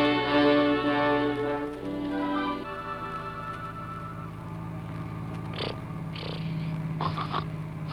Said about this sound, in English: Is that the kid snoring? Well, it ain't me,